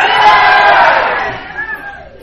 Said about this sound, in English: If you guys would do me a favor, stand up. All right, now here's your instructions. The Buckeyes just won the national championship. I want to hear your best cheer. You ready? One, two, three, go.